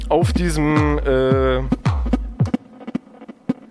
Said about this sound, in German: auf diesem Signal ist so ein Echo mit drauf. Das kommt aus dem Rechner. Ich drehe das mal trocken. Das hier ist das eigentliche Signal. Und mit dem Echo kann ich dem halt irgendwie mehr Kultur geben.